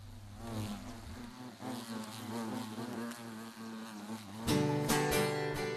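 A whining mosquito buzz drones steadily and loudly, its pitch wavering slightly, before a brighter, fuller burst of sound joins in near the end.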